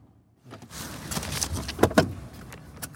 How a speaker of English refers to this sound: Eventually, we stopped the trucks and all got out.